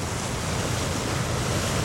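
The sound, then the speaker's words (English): A steady, full roar of ocean surf washing onto the shore, with a rushing hiss that stays even throughout and no voices or other sounds. “The cold, cold sea. The sound of the waves singing to me.”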